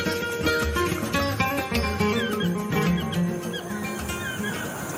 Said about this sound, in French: C'est un colibri. Un colibri posé sur une branche et qui appelle les femelles. Il chante toute la journée. Toute la journée. C'est pourtant tout petit un colibri, ça fait autant de bruit. Oui, petit mais bruyant.